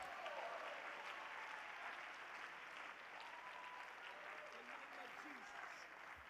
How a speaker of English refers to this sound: You're going to make it. Come on, somebody clap your hands to the Lord.